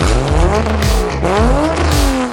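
A sports car with a Supra engine revs loudly and unevenly, the flooded engine's pitch surging up and dropping back in repeated uneven bursts with a rough, choking edge, with no talking.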